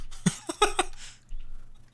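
A short burst of dry coughing: three or four quick, harsh coughs in rapid succession, then silence with only faint background hum.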